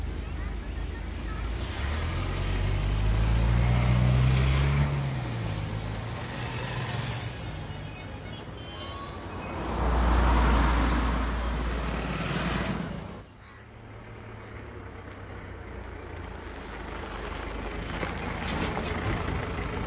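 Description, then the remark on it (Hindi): Steady road noise from a moving car heading home, with a low engine rumble that swells twice as traffic passes, then settles into a softer, continuous hum. “गाड़ी घर की तरफ ले लो।”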